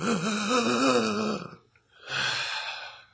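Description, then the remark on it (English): A voice imitates two long, raspy, labored breaths of a man dying of cancer as he sits in a chair: a groaning, rattling exhale followed by a short pause and a second, breathier heave. “And he sat there in the chair, and he would breathe really raspily.”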